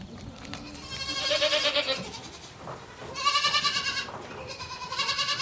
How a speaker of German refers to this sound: Ziegen, diese ewig neugierigen Tiere, lassen sich ein solches Abenteuer nicht entgehen.